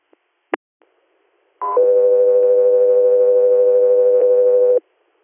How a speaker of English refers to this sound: 3-4, stand by for Tones.